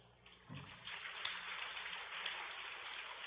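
Thin, scattered applause from an audience with a soft pattering texture, like light drizzle, rising after a brief pause and holding at a low, steady level for about three seconds.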